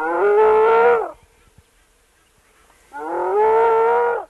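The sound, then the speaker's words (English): A female spotted hyena named Pan, hidden in a hole in the ground near a river in Kenya, gives two loud, drawn-out, distressed-sounding whooping calls about two seconds apart, each a strained, harmonic-rich tone holding steady in pitch before dipping at the end, with near silence between. “It was a pretty distressed-sounding whoop.”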